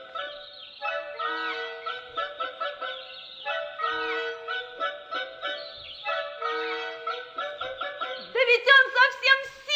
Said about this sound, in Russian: Значит, это и есть синяя птица, которую мы должны отыскать для феи. Можно мы посадим его в мою клетку?